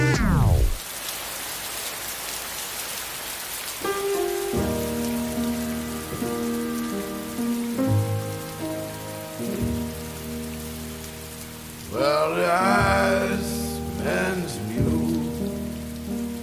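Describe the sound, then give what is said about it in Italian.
Steady rain patters on a surface, a continuous hiss that runs throughout, soon joined by sustained musical tones playing over it; no one speaks. “Per definire la pioggia bisogna aspettare.”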